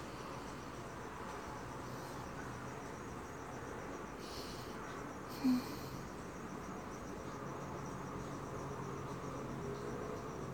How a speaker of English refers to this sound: Oh, thanks, crickets. You're doing great. But it gets really irritating when they're right outside your window. Which has happened before. But I think this is nice, and hopefully you can hear it too.